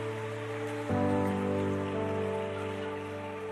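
Audience applause for players who have just demonstrated a tackle swells suddenly about a second in and continues as a dense, steady wash of clapping, with a low sustained tonal hum running underneath throughout.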